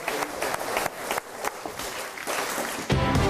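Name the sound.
audience applause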